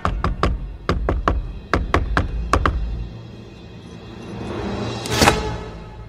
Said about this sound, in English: Okay, so we get to the workshop and discover there is a secret knock to get into the building. I'm obsessed with this.